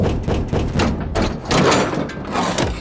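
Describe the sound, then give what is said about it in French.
A heavy old car wheel rim, found lying in the street, is dropped into a waste-digestion machine, giving a series of loud metallic clanks and thuds with a rumbling clatter over about three seconds. “Cette vieille jante de voiture qui traîne sur la rue, par exemple.”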